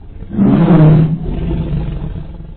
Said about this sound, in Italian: Tremal Naik cercava di calmare la tigre, la quale, spaventata da tutti quei fragori e da quell'abbagliante chiarore, ruggiva ferocemente, lanciandosi dall'uno all'altro bordo della imbarcazione con grande pericolo di rovesciarla.